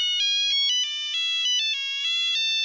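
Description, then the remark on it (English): A Nokia 2 mobile phone ringtone plays its quick, stepping electronic melody, bright and beeping, heard clearly and alone with no one talking. “And it was this Nokia 2 and dee-dee-dee-dee-dee-dee-dee-dee-dee-dee.”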